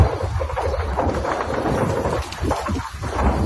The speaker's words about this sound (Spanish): Es el sonido de los disparos en Bakhmut, una de las zonas donde ayer se recrudecieron los enfrentamientos entre los rusos y los ucranianos.